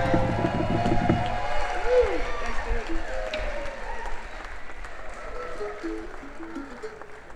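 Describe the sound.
An audience claps and cheers for a performer on stage for several seconds, a dense, steady wash of applause that starts loud and eases slightly, with scattered voices and whoops mixed in.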